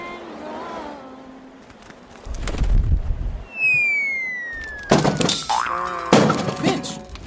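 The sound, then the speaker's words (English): Cartoon fall and crash of a bird that stopped flapping its wings and hit the ground: a dull thump, then a long descending slide whistle, ending in a loud smack followed by another clattering bang. “You just stopped flapping your wings and hit the ground and splat!”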